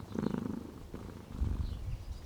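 A cat purrs, a low, steady rumbling that pulses rhythmically with each breath. It is soft and continuous, with no voices.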